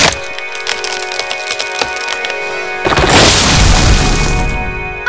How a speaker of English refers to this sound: I hit it! I really hit it! Holy cow! You turned that tree into toothpicks.